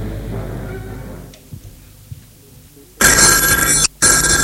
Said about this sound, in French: Téléphone a sonné et a décroché.